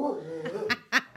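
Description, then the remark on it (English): A dog in a studio barks three times in quick, sharp bursts, fairly loud, following a stretch of voiced sound, because somebody made a noise at the door. “Did you pinch that dog?”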